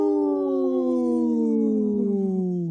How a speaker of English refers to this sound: Wow. That cat was, my cat over here was howling.